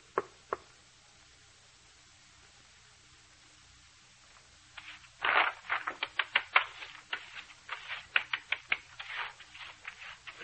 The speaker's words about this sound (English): Tap your foot all you want to. Sit and stare at me. Can't drive me away. Go on, tap some more.